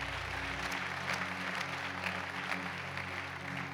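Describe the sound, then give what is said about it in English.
A seated church audience claps steadily for several seconds during a service, a dense, even wash of many hands with no voices, over a low constant hum. “Clap your hands one more time as you're seated.”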